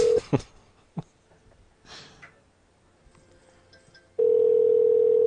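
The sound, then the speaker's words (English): A telephone ringing with a steady, loud electronic tone that cuts in near the end, preceded by a brief blip, a couple of soft clicks, sniffs and quiet rustling. “I'm pretty sure it's still ringing.”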